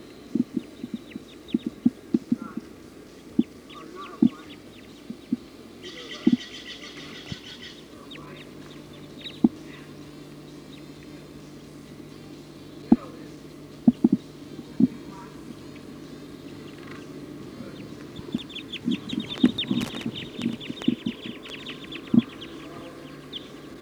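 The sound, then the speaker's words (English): A flock of Type 2 birds perched at the top of a pine tree calls in scattered bursts of high chirping, swelling at times into a busy chorus, over a low steady rumble punctuated by sharp irregular clicks and taps. “According to the flock is calling now.”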